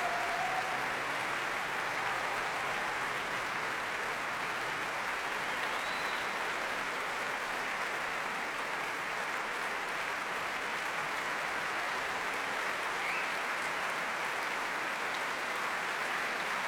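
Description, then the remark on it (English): A large concert audience applauds steadily, a dense, continuous roar of clapping with scattered cheers that holds at an even level from start to finish without fading. The cheer is for William Morley, 18, from Manchester, principal trumpeter of the National Youth Orchestra, as conductor Vasily Petrenko returns to the platform. “That cheer for William Morley, 18-year-old from Manchester, who's principal trumpeter in the National Youth Orchestra.”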